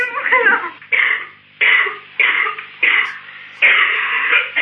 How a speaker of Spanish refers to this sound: Está un poco mal de la tos.